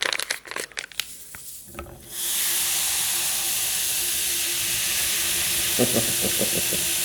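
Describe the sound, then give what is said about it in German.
A few soft clinks and rustles as baking soda is added to water with citric acid in a cup, then a sudden steady fizzing hiss that sets in and carries on loud, with faint taps near the end. “Das brutzelt eine Weile.”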